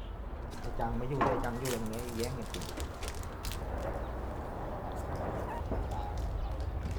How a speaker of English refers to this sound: The stray dogs around the temple have become their pets.